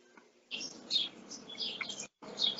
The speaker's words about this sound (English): I can hear the birds in your background.